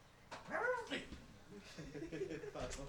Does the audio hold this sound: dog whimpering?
yes